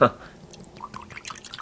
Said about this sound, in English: Trying to pour it so we get a little head.